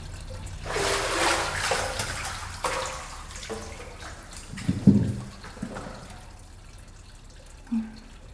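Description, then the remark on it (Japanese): Water sloshes and pours as it is used to wash someone's back in a bath, a broad splashing rush in the first few seconds, then quieter trickles with a couple of sharp drips or plops near the end. No one speaks. “さて、ご主人様のお体が温まったようでしたら、お背中を流しますが、いかがいたしますか。”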